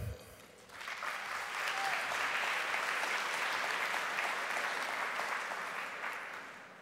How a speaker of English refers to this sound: Well-earned applause.